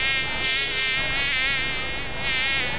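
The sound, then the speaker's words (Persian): A fly buzzes steadily for the whole stretch, its droning whine wavering slightly in pitch as it hovers, with no voices present. “خو مگس جان، گاهی وقتم شده که یک چشم آرام خو کده باشی، چرا که همیشه در گشت هستی؟”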